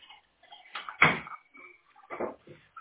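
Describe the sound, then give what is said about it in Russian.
A door being shut, with a sharp thud followed a moment later by a second, softer knock and faint rattling. “Все, ну закрой дверь там.”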